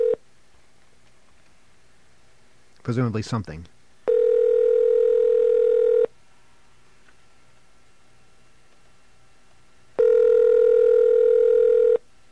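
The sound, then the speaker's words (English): A phone call placed from the WUSB radio station to someone in Philadelphia: a quick burst of dialing tones, then two long, steady ringback tones about four seconds apart, clear, with a brief bit of voice near the start. “let's make our next phone call.”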